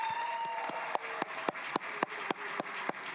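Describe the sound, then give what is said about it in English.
An audience in the Florida House applauds children from the Glades communities in a steady, dense wash of clapping, with a few louder, sharp claps standing out at a regular, even beat through the whole stretch. “Everyone, please give them a huge round of applause.”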